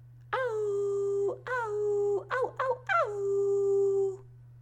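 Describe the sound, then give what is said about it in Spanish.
A voice imitates a wolf howling: a long wavering howl, a second one, a few short yelps, then a final drawn-out howl sliding downward, loud over a steady low hum. “El lobo se puso a aullar.”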